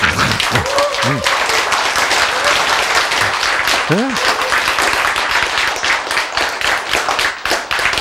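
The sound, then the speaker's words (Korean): An audience claps steadily for about eight seconds, a dense, loud wash of applause that barely dips, with a couple of brief voices calling out over it. “박수.”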